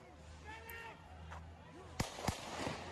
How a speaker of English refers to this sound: So that's him walking away. He's not shooting the gun. Those gunshots you guys are hearing, that's somebody else with a gun in the back.